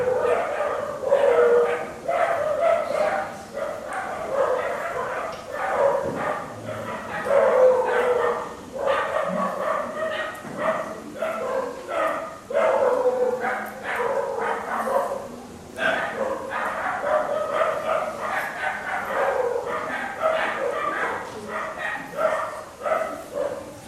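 Several dogs bark and yip in a steady, overlapping clamor, loud, with occasional drawn-out whining howls mixed in throughout.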